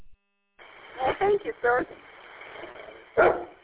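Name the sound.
big dogs barking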